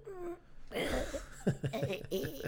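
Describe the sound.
A voice imitates a muffled, held-back cough from a little phlegm in the throat, a few short throaty bursts and clearing noises in quick succession, with faint laughter mixed in.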